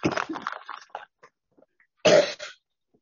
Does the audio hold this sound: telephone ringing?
no